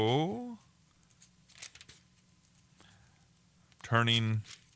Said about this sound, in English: turning pages. Well, anyway, there it is.